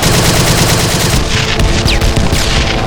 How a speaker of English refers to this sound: He heard the gunfire, the machine guns, but they were not his own.